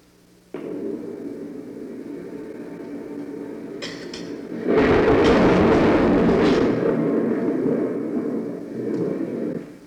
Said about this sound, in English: The sound of thunder says that God is planning a change in weather.